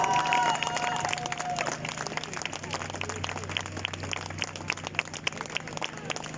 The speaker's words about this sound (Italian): però io direi che in quest'anno siamo stati veramente brave e bravi. Facciamoci un applauso.